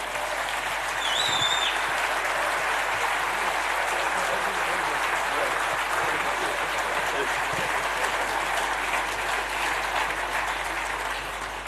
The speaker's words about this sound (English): I even heard a little whistle there, Gate, and that's a first for a business news conference.